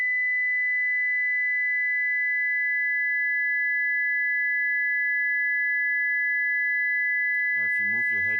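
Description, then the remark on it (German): Two steady, high-pitched sine tones sound together, one at 2000 hertz and a second close in pitch, holding unbroken for about seven seconds before a voice begins speaking over them near the end. “Eine zweite kommt dazu.”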